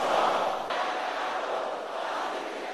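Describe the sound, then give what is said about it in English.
An audience at a prayer shouts together in a loud, sustained roar of many voices, a dense unbroken wall of overlapping cries that holds steady for a few seconds, dipping only slightly partway through, as they are urged to shout louder. “Let your voice be louder than that.”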